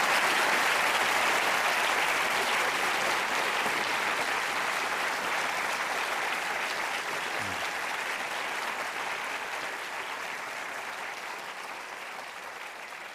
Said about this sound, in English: Well, there is more applause here than in the European Parliament, I can tell you.